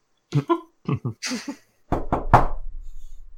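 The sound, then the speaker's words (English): A voice speaks briefly, then after a short pause come three quick, fairly loud knocks in a tight rhythm, knuckles rapping on a door, followed by a faint low rumble. “So you knock.”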